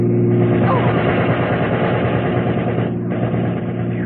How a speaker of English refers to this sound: I don't feel like playing target for that thug with a machine gun anymore